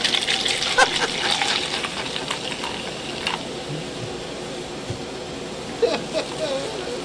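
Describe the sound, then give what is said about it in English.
A drink called a haunted beverage is poured into a cup: a steady, hissing splash of liquid that is strongest in the first couple of seconds, then thins into softer trickles and a few small drips. “He's pouring it into a cup.”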